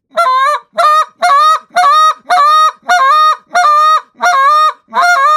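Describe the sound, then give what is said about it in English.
A goose call blown in a steady, donkey-like cadence: nine loud, evenly spaced two-note honks, each rising then breaking lower, with brief gaps between and no talking. “And your basic one, when you're blowing in the call, I always say it sounds like a donkey cadence almost.”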